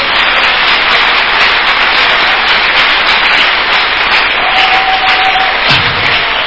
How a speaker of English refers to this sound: Church, can we clap our hands for the Lord?